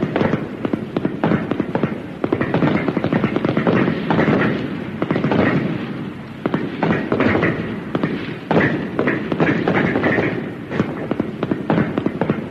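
A loud, sustained barrage of rifle fire, with many sharp overlapping shots cracking in rapid, irregular succession throughout, like a group of shooters firing together at close range.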